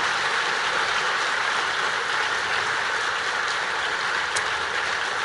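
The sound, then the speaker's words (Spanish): Sustained audience applause for those who stood up, a dense, even wash of many hands clapping at a steady loudness throughout, with no voices rising above it. “¿Por qué no les damos un fuerte aplauso a los que se pusieron de pie?”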